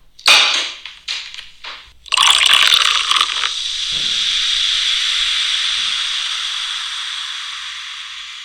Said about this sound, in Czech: tak jsem si říkala, že by to pomalu chtělo bouchnout si šampaňský. Já tady žádný nemám, ale protože dělám podcast, tak se můžu nahrát nějaký zvukový efekt.